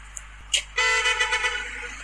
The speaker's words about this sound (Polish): Dlaczego on idzie wzdłuż pobocza? Zatrzymują się samochody, trąbią, ludzie go pozdrawiają.